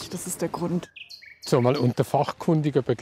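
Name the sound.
nightingale singing at night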